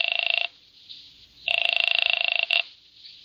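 A telephone rings in two bursts on an outgoing call, a short one then a longer trilling ring after a pause, clear with no voices.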